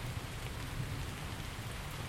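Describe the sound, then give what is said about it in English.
Heavy, steady rain falls by a shed overhang, a dense continuous hiss of drops pattering on a surface with no voices, constant in loudness throughout. “But it's that lovely rain.”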